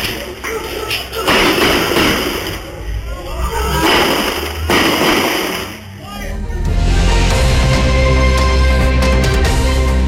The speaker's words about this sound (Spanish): Ahí pudimos escuchar diferentes disparos provenientes desde un vehículo.